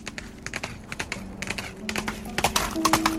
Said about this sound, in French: Un cavalier à cheval apparut galopant à travers la plaine austère du désert de Gobi vers la yourte impériale.